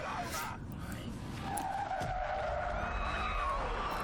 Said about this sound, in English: This is the spinny bit. Oh, I think this is so well shot. Yeah. Mm. I really felt as though I was going round. A handbrake turn, that was, boys.